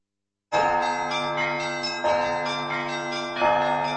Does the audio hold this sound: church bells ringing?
yes